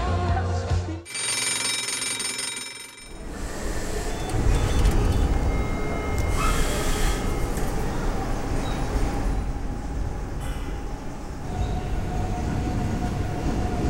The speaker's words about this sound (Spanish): Che, está bueno el subte, ¿eh? Sí, está bueno, ¿no? Buena pinta tiene. Sí, la verdad que la tomaron bastante bien, pero algo que no me gusta de los subtes es que cuando va muy rápido me mareo un montón a la mañana.